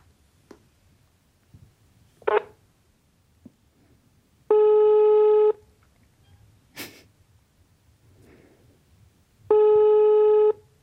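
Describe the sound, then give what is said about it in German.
A few short clicks and taps as a Munich phone number (area code 089) is dialed, then two long, steady, buzzing ringback tones, each about a second, spaced several seconds apart in otherwise quiet surroundings. “Okay, die Nummer hast du, oder? Ja. Also 089 ist München, ne? Ja. Wählen.”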